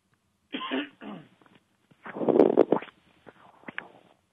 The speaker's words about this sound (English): I'm sorry. I know you had a little cough there. I wasn't sure if you were through.